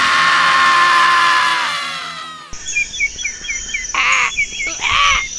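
A sustained ringing tone fades out, then a crow caws twice, loud and harsh, amid scattered high bird chirps, in a station ID for Zona Punk, a university internet radio.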